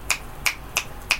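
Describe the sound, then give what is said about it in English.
Four crisp finger snaps by people in a bar audience showing appreciation for the music, in a steady, slightly uneven rhythm, clear against a quiet background, with no talking. “What you just heard was the sound of people clicking their fingers.”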